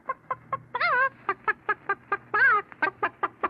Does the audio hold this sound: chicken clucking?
yes